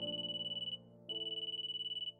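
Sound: telephone ringing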